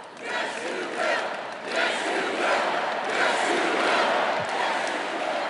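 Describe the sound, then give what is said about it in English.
A large crowd roars together in a sustained, loud wave of voices, with rising and falling surges of a repeated collective chant of "Yes, You Will." “The crowd was cheering, I believe, Yes, You Will.”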